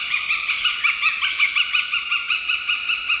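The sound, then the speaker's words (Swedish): A white-tailed eagle's cackling call: a fast, steady run of harsh, high-pitched yelping notes repeated evenly for several seconds, with no voices over it. “Det är inte olikt havsörnens kacklande läte som vi hörde i början och som kommer här igen.”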